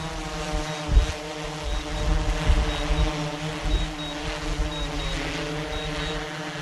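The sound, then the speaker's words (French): A surveillance drone with a camera, used to spot migrants at the border, hovers just overhead with a steady, buzzing motor hum layered with droning harmonics, a faint high whine pulsing on and off and a couple of low thumps underneath. “C'est pour ça qu'il utilise ce drone que vous entendez derrière nous, qui vole juste au-dessus de nous avec une caméra pour repérer les migrants, donc de jour comme de nuit.”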